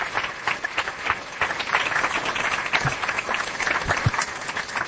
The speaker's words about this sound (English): Thank you, ladies and gentlemen, again very much. Please join me in giving a round of applause for our panel. Really terrific.